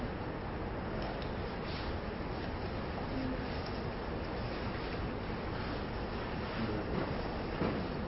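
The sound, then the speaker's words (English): A steady, dense wash of rustling paper as Bible pages are turned to Matthew chapter 28 during a sermon, continuing evenly for several seconds with no voices over it. “I hear some pages rustling.”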